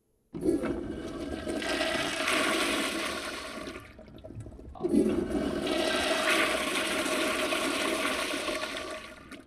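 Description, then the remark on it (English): Two flushes of dual-flush toilets in a museum bathroom, each a loud rushing gush of water, the second starting after a brief pause and running slightly longer and stronger than the first. No one speaks. “These toilets have two different flush options. Flush up to dispose of liquid waste and save water, or flush down to get rid of solid waste.”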